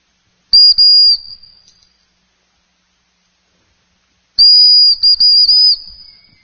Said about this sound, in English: Does that sound loud? It does? It's called the ICE whistle. In case of emergency, you blow this whistle.